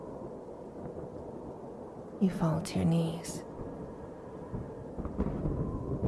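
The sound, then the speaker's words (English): Deep, steady rumbling of explosions and crumbling ice rolls underneath, with a few heavier bursts toward the end. A man speaks briefly over the din. “You hear explosions happening all around you as the ice crumbles.”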